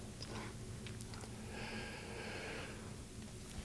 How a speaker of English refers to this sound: Sorry, I had to take a big breath.